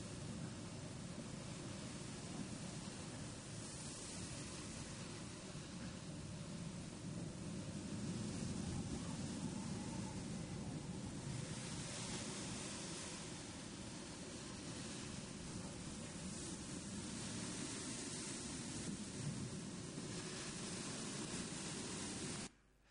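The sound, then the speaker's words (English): A storm at sea around a cargo ship: a dense, continuous roar of wind and churning waves that holds steady and loud throughout, with only faint surges and no voices. “So I've just got a little video, a very quick video of a storm.”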